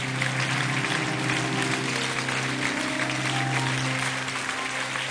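An audience applauds the pastors among them, giving glory to God for each of them, dense clapping filling the full five seconds at an even, loud level, with a faint low sustained hum beneath and no speech.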